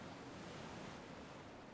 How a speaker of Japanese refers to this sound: 物心つく前から、お母さんのお腹の中にいる時からずっと波音を聞いてて、だからこうやってると すごく落ち着くのかな。